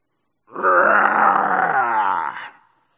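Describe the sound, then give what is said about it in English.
A person lets out a single loud, sustained growl lasting about two seconds, a rough, throaty voice imitating a tiger's roar as a cheer, then it cuts off. “The Academy team was escorted to the steamer Apron by their new friends, who sent them home with three hearty cheers and a tiger.”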